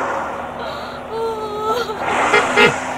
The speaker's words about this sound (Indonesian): Itu mobil Pak Mandor datang.